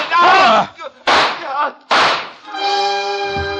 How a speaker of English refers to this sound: Her gun spit and three slugs plowed their way through Michel.